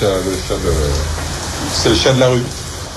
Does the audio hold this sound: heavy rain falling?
yes